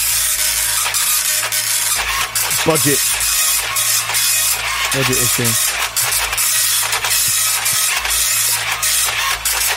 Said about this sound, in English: Very slow printer, sorry about that.